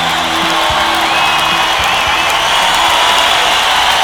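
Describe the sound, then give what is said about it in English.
A crowd cheers wildly, a loud, steady roar of many voices with whoops and whistles that holds at full intensity throughout, with no clear speech. “The crowd goes wild.”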